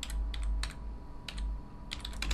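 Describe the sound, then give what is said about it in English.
Rapid bursts of keyboard typing, crisp clicky keystrokes in uneven clusters with short pauses between, moderately quiet over a low background hum. No one speaks. “oh, sorry, you have to hear this typing again.”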